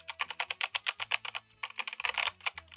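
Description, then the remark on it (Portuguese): Rapid, crisp clicks of typing on a new Keychron K8 mechanical keyboard, a quick irregular burst of keystrokes with a brief pause midway, no voices. “Isso que vocês ouviram é o meu novíssimo teclado, o Keychron K8.”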